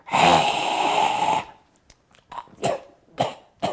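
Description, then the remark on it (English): A voice imitates breathing fire: one long, loud, forceful roaring exhale, followed by a few short, quieter breathy huffs. “Yes, like a breathing fire. I can breathe fire. You want to see?”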